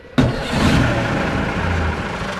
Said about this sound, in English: The vintage diesel engine that drives the Ghost Bus tour of Edinburgh might alarm climate activists, but it's also an economic engine, providing dozens of local jobs.